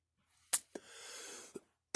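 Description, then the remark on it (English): A few short, sharp coughs from a person who is sick, in an uneven run, separated by a raspy drawn breath, ending in a louder final cough. No talking. “Try not to cough so much, but it's kind of hard.”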